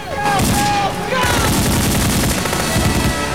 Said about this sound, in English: Bullets rip through the underbelly of the craft, and the soldiers return the gunfire.